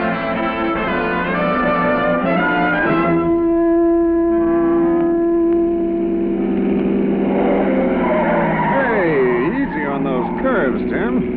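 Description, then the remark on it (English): A car engine hums steadily, then its new low-pressure tires squeal in wavering, rising and falling whines as the car takes a turn, loud throughout. “It's these new low-pressure tires”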